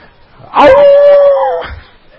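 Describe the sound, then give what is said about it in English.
A person imitates a hound dog on the trail of a coon, baying: one loud, drawn-out howl that swoops up at the start, holds a steady pitch for about a second, then cuts off. “Hound dog on the trail of a coon said, "My, my, my.”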